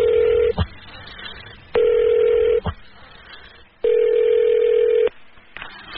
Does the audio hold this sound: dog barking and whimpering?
no